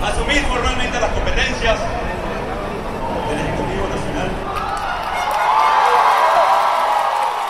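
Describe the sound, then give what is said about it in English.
A large crowd of hundreds of thousands on the streets of Caracas, Venezuela, roars and cheers in a dense, continuous wash of voices, with scattered shouts and whoops, swelling louder in the last couple of seconds, as opposition leader Juan Guaido takes an oath of office as interim president. “He took an oath of office in front of the crowds in the capital, Caracas.”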